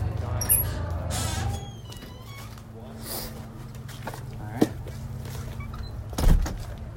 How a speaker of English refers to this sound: Another spooky door.